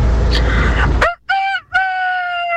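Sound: rooster crowing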